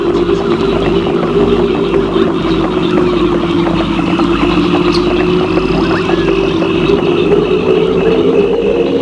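Slow, steady hoofbeats of a horse ridden at a careful walk over soft, shifting ground in humid, stifling air thud along continuously, set against a constant low droning hum that fills the background throughout.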